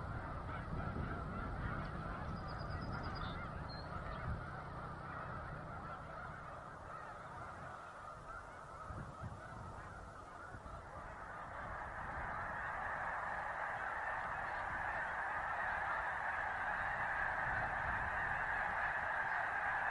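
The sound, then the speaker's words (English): A vast flock of migrating snow geese honking in a dense, continuous chorus near Savannah, New York, in the Finger Lakes, the overlapping calls swelling louder toward the end, with no one speaking. “We leave you this morning near Savannah, New York, in the Finger Lakes, a favorite spot for migrating snow geese.”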